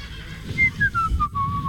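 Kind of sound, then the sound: human body sound, person whistling a tune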